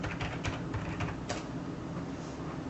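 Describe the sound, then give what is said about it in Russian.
A handful of quiet keyboard key clicks, typing Glorox into a web browser, tap out in an irregular burst, then fade into a low steady background hum with no one speaking. “Вы просто вводите Glorox, ну я вам ссылку скину отдельно.”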